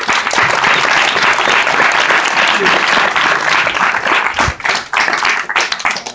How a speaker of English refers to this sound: So thank you so much. We'll give everyone a round of applause.